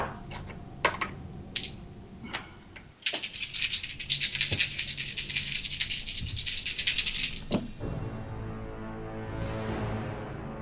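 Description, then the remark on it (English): Dice being rolled during a tabletop role-playing game clatter and rattle: a few sharp clicks first, then a steady, busy shaking rattle for several seconds before a final clack, moderately loud, with no talking. “To roll real quick.”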